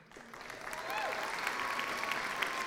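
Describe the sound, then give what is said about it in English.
Audience applause for the VoiceOver Choir swells within the first second into steady, dense clapping that holds at a loud, even level, with a few faint whistles rising above it. “Well, let's hear it for them, ladies and gentlemen.”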